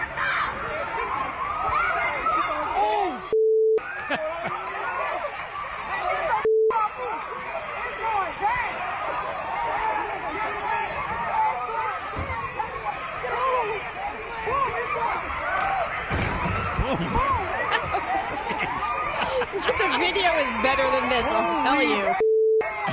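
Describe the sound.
A chaotic crowd brawl with people throwing chairs and tables, many voices shouting and yelling over one another, the commotion continuous throughout, interrupted early on by two short bleep tones.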